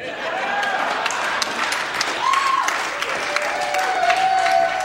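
An audience applauds steadily after a live song performance, with dense overlapping clapping that holds a fairly even level, broken only by a few faint whoops and cheers rising above it.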